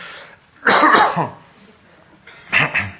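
A person coughs in two bursts: a longer harsh fit early on, then a shorter pair of coughs near the end, moderately loud with quiet gaps between.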